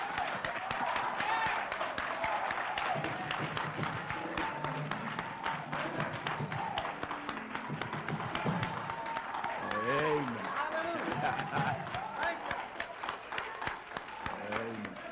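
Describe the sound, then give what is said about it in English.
A church audience gives a hand clap of praise, clapping in a dense, steady burst of applause lasting the whole stretch, with voices calling out and exclaiming beneath the clapping. “Well, I want you to give a hand clap of praise so the devil can hear you.”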